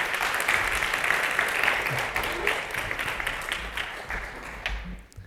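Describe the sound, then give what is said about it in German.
Steady audience applause for the worship team at a church service, a dense wash of many hands clapping at an even level for about five seconds before quickly tapering off at the end. “Ich glaube, die haben wirklich einen Applaus verdient.”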